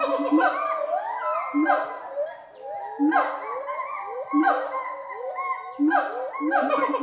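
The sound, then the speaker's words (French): A siamang gibbon alarm call warning of danger from above, not a territorial song, from a family of four siamangs in an acclimatisation cage: loud, harmonic wailing hoots that sweep upward in pitch, repeated in rhythmic bursts roughly every second and a half, with no talking over them. “C'est pas un chant territorial, c'est un cri d'alerte d'en haut.”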